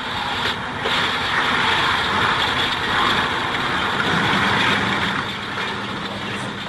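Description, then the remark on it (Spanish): Underwater sonar recording, made aboard the Conqueror, of the sinking cruiser Belgrano breaking apart: a dense, steady roar of hissing noise with low tonal hums and a few brief crackling bursts, no voices. “Suena como si se rompiera una araña de luces. Como cristal rompiéndose.”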